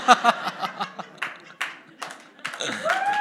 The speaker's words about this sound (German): Ja. Ich höre hier männliches Klatschen. Gleich rausgehört.